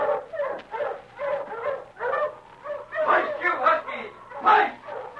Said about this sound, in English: Come on before them dogs run off. Ho, you huskies! Ho!